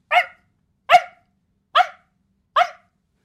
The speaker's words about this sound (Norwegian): Det eneste med de hundene der, det er at de tar mindre plass. Men de her skrikete, ekle stemmen deres tar jo mer plass enn, la oss si, en labrador.